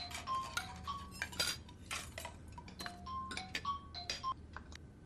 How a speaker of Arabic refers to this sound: إيه اختي عم يرن موبايلك. لو سمحتي انتي ردي.